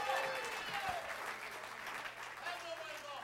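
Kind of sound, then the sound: crowd, audience clapping hands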